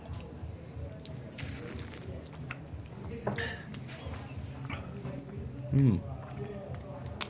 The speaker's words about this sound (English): All right, let's take a sip.